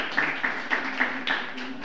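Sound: warm round of applause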